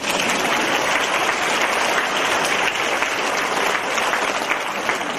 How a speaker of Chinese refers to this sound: 请鼓掌